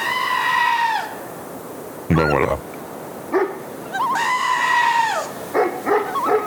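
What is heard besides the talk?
sheep bleating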